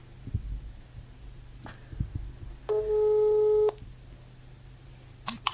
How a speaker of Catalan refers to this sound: Truca-la, va. Sí. Vinga, a veure si ens l'agafa el telèfon.